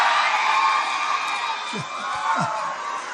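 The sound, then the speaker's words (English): A dense, loud crowd roars and cheers continuously, a wash of many voices shouting at once, with a few deeper individual whoops and yells breaking through near the end. “They ain't shouted yet. They're going to shout now.”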